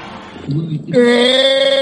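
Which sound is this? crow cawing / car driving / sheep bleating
sheep bleating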